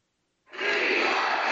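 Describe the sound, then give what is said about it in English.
A large crowd at the Conservative Political Action Conference in Orlando, Florida, bursts into loud, sustained cheering and shouting for former U.S. President Donald Trump after a brief silence, a dense roar of many voices that holds steady to the end. “Judging by the crowd's reaction, the former president didn't disappoint.”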